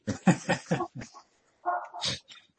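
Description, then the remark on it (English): A participant's dog barks in the background, distant and fairly faint: a quick run of five or six sharp barks, then a pause and a couple of longer, whinier yelps. There is no talking. “All right, the dog is quiet.”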